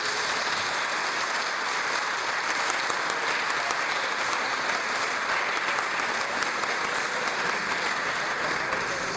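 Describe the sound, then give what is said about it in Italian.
A crowd at a parish patronal feast evening applauds a guest steadily for several seconds, a dense, even wash of many hands clapping with no pauses and no voices standing out. “stare con lei questa sera è proprio piacevole, la ringraziamo di cuore, ecco, le facciamo un ulteriore applauso.”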